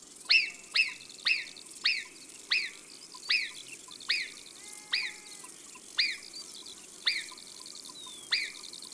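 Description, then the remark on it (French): A marmot in the mountains whistles over and over, about a dozen sharp, piercing high calls in a steady rhythm, clear against a faint outdoor hush. “C'est vrai, les marmottes sifflent pour annoncer un danger.”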